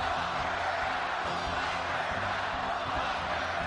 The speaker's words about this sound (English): It's a scene we haven't witnessed in months. A large indoor gathering with thousands of supporters cheering President Trump. A campaign relaunch one Republican strategist said was much needed after a brutal few months.